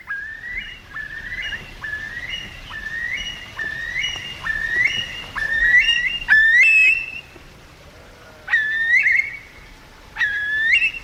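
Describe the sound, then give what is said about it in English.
A Eurasian curlew, rescued as an egg from a military airfield and released into the Norfolk skies, calls in a fast series of rising, liquid whistles that build into louder, upward-sweeping notes. Clear, with a soft outdoor hum beneath and no talking. “Rescued as eggs from military airfields and released into Norfolk skies, 37 curlews carry with them hope for species survival for our most critically endangered bird.”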